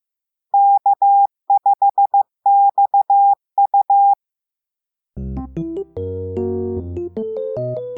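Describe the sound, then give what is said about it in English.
A ham radio operator's call letters sent in Morse code (CW) as heard over the radio: beeps in a single steady mid-pitched tone, keyed into quick dots and longer dashes across four short groups, followed by a pause and then music starting up. “The reason I chose my call letters was because they sound so cool on CW, on Morse code, which I do a lot of.”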